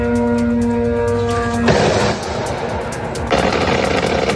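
Anti-aircraft defenses fire at Iranian drones attacking the US embassy in Baghdad, Iraq, in the morning: a steady, droning hum gives way to loud, rough bursts of rapid, crackling fire that rattle on in two long stretches, with no voices.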